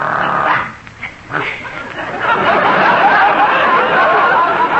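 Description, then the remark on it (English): A small dog named Daisy yaps and barks in quick, excited bursts, fairly loud, with a brief lull before the noisy yapping picks up again and carries on steadily. “And this is Daisy, my favorite dog.”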